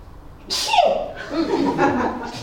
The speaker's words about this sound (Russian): Служащий Питера чихнул.